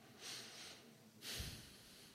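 Two strong breaths pushed out through the nose at the start of a seated breathing meditation to release tension, each a broad airy rush lasting about half a second, separated by a short pause, with no talking.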